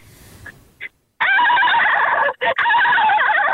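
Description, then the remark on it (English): A person imitates a dolphin call: a couple of short squeaks, then a loud, high, wavering trill that runs for about two seconds with one brief break, whinny-like in tone. “Give us a dolphin.”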